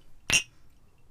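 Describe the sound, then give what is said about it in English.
A single bright clink of glasses of vodka with a splash of Bailey's touching in a toast, a short sharp ring that fades quickly, heard alone with no talking. “Cheers. So cheers.”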